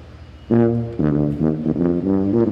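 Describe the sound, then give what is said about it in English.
A tuba honks a short run of about five low, brassy notes in a steady rhythm, loud, with no voices, played by a musician in a road tunnel. “All right, play us out. We got to get him honking here.”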